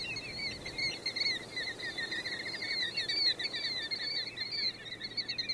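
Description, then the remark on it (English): A flock of golden plovers keeps up a steady chorus of high, overlapping whistled calls, carried over a low, continuous roar of gas well engines in the background, across the river from Fort Chaffee. “The birds keep up an exciting caroling with background accompaniment of gas well engines roaring and boom, boom of artillery practice at Fort Chaffee across the river.”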